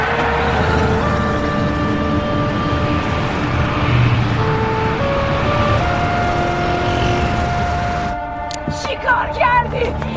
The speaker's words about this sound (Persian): سوار ماشین میشه. اسماعیل دستگیره در رو میکشه. بیوک حرکت میکنه و میره